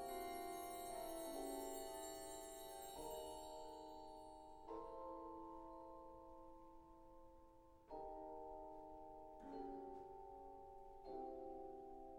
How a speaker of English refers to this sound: The mallet instruments return with atmospheric runs on the bell trees.